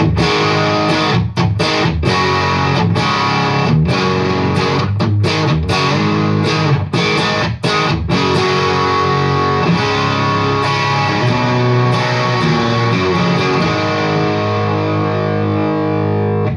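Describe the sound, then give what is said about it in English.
A heavily overdriven, high-gain amp tone with the gain turned right up to full, thick and crunchy, played as chugging chords with brief rhythmic stops, loud and sustained with little hiss, no voices. “And although that's really crunchy and gainy, it's still not too noisy, which is great.”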